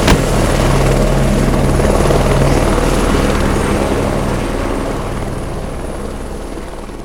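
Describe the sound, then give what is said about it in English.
Kincaid's helicopter, painted black with a skull and crossbones on the side, roars loudly and steadily as it takes off, its rotor chopping in a fast throbbing rhythm with a high engine whine, the sound easing slightly toward the end as it lifts away. “That must be Kincaid's helicopter taking off.”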